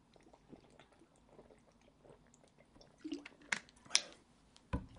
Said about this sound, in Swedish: Det är varmt, måste dricka vatten här.